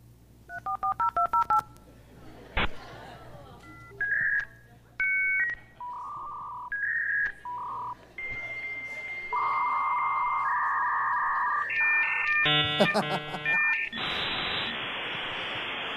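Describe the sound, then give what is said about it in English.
A dial-up modem on a phone line dials a quick run of touch-tone beeps, then screeches through its handshake of steady tones, warbles and chirps, ending in a loud hiss of static. Clear, with no talking. “When I finally got high-speed cable internet that wasn't attached to a phone line, it was life-changing.”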